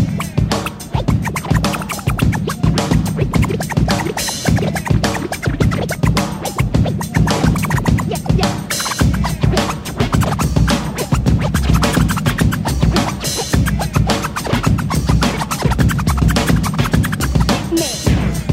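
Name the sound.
DJ turntable scratching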